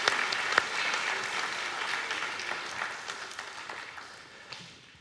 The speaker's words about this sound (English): Let's give our volunteers a round of applause so you can all go take your seats. Thank you very much.